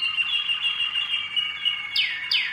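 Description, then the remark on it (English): A songbird sings a sustained, high trilling phrase, followed by two quick descending whistled notes; clear, with no voices present. “Some birds sing, 13, 14 different songs.”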